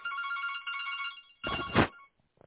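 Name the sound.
telephone ringing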